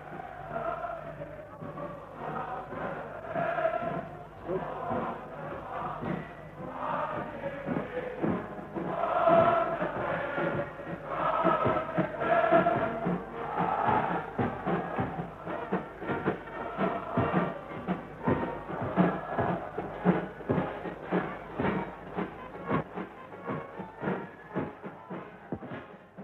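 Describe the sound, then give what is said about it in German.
A crowd cheers and roars continuously while music plays from outside, heard through the open window of the room where the new Reich Chancellor Adolf Hitler is, the dense, muffled din staying steady and loud for the whole stretch, with brief swells of shouting throughout. “Sie, Die Menge jubelt.”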